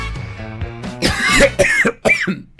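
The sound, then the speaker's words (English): A loud cough bursts out after a brief throaty sound, followed by a few shorter hacking coughs in quick succession, with no talking. “I'm gonna have to cough here.”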